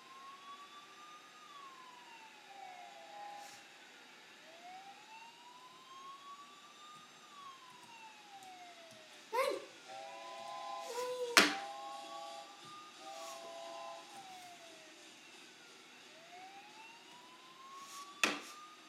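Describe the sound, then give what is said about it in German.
A police car siren wails steadily, rising and falling in long sweeps, briefly switching to a choppy stepped tone midway, with a few sharp clicks and thumps in between. “Keine Bewegung, hier ist die Polizei. Ich verfolge wirklich gerade den Zug.”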